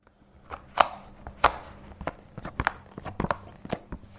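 Tarot cards being shuffled, a series of irregular crisp snaps and slaps, about a dozen sharp flicks scattered over a few seconds, with no one speaking.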